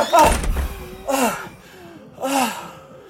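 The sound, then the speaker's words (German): A door slams shut with a heavy thud at the very start, then two breathless, voiced gasps follow about a second apart. “Komm, mach die Tür! Mach die Tür!”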